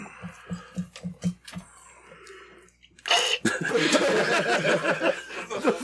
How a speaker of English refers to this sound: Who took a drink out of the world's tiniest, tiniest took a straw? Shit. Tiniest, tiniest straw. I think that was me holding a cough because we're smoking weed.